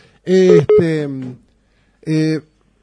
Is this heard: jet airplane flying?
no